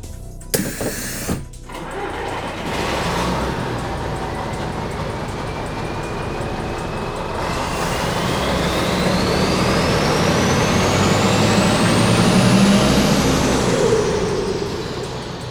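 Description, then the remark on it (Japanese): A Fukuyama Kanko tour bus engine rumbles steadily, its whine climbing as it pulls away, after a brief sharp hiss of air brakes at the start. No one speaks. “バスに乗れ。”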